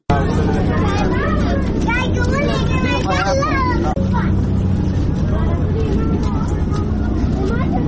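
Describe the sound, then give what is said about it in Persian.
Floodwater from recent heavy rains rushes steadily through the streets and alleys of Kabul, a loud continuous wash of noise, while a crowd of voices chatters and calls out over it throughout. “در مورد گزارش را تهیه کرده که با صدای آب های جاری در کوچه و جاده های کابل آغاز می شود.”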